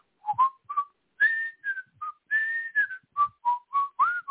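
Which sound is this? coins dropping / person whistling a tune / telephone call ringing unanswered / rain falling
person whistling a tune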